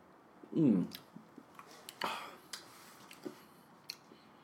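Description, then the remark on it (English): A quiet sip of a spirit from a glass: one short slurp, then a soft wet swallow and a scatter of faint lip smacks and tongue clicks, with no talking. “Let's go ahead and get a sip of this bad boy.”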